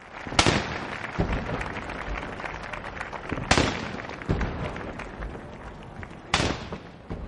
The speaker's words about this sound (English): And cannons were fired.